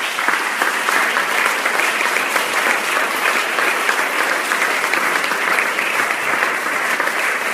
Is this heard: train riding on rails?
no